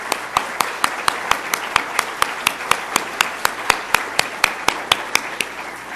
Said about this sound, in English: I want you to give him a little round of applause. Here's have him stand up.